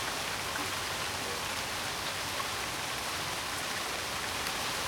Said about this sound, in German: Und damit man das vielleicht an den Geräten, an den mobilen Endgeräten nachvollziehen kann, ganz kurz mal drei Sekunden Schnauke halten, dann kann man den Regen vielleicht hören.